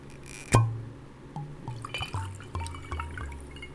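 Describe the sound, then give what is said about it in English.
A glass clinks sharply when set down, followed by a liquid glugging and splashing into it in uneven spurts, fairly quiet, with no one speaking. “This glass will do. A communal cup.”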